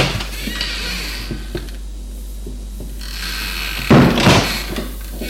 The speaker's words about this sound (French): La porte s'est ouverte.